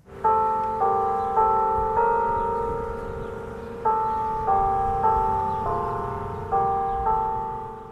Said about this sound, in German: Glockenspiel vom Zeitglocken. Aber nicht von dem berühmten Stadttor aus dem Mittelalter zu Bern. Es ist ein Zeitglockenturm, der allein auf einem Platz steht, zu Bern im US-Bundesstaat Indiana.